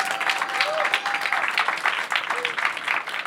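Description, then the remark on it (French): An audience at a masterclass applauding steadily, dense overlapping claps forming a continuous wash of sound with a few faint whistles or cheers threaded through. “Attends, c'est après les applaudissements.”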